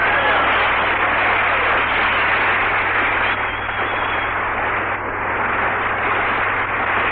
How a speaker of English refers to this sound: Hi, you fellas. Clap them hands. Stir up some air. It's hot in here.